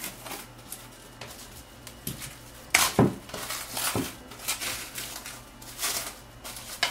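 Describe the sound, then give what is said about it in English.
Plastic food wrap crinkles and rustles in irregular bursts of crisp, hissy crackling, with a few sharper snaps, as it is wrapped around the rest of the plant pieces, over a faint steady low hum and no talking. “For the rest of the plants, I like to go in with my plastic food wrap and just wrap it up.”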